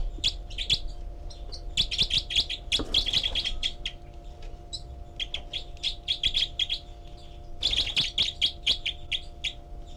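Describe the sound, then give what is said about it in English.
A group of four birds in a nest, recorded with a parabolic microphone at cell 4, calls continuously, including begging calls, with overlapping high-pitched chirps and tweets in quick irregular bursts, loudest at the start and again toward the end, over a steady low hum. “And this is the group of four birds.”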